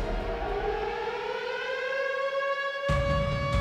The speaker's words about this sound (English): Lights went out from Los Angeles all the way south to the Mexican border. Radio hosts cut their broadcasts. Sirens blared.